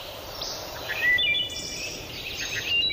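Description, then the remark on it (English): Soft, flute-like wood thrush notes, a couple of brief whistled phrases rising over a steady outdoor hiss, with no voices. “But there was one pretty regular visitor, the wood thrush.”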